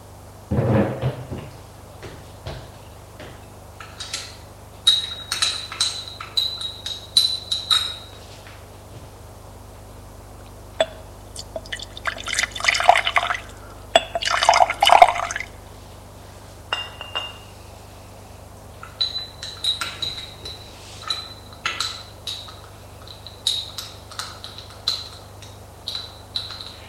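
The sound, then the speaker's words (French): Café au lait being served from a breakfast tray: scattered light clinks and taps of cups and dishes, then a brief rushing pour of liquid midway, followed by more soft clinks. No one speaks. “Et lui sert son café au lait.”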